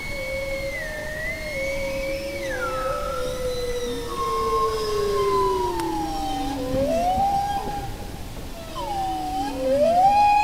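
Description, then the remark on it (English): Bowhead whale song: long, wavering tonal calls that glide down and then swoop upward, layered with harmonics, over a steady low rumbling background with no voices. “Like humpback whales, bowheads sing long, complex songs, but a recent study found that while humpbacks tend to repeat their songs in a fixed structure, bowheads change them up.”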